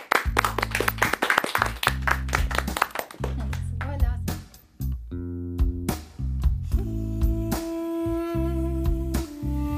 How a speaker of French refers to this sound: Vous pouvez vous applaudir, vous étiez pas mal aujourd'hui. Bravo!